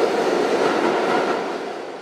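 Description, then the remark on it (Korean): A subway train arrives at the WTC Cortlandt station at the World Trade Center in New York, the first train there in 17 years, rumbling loudly and steadily, a dense roar of wheels and motor noise that eases slightly toward the end, with no voices. “17년 만에 다시 열차가 들어오게 된 세계 무역센터 지하철역.”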